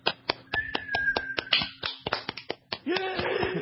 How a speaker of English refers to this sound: Okay, I'm finished. We're going to hear a round of applause from our audience.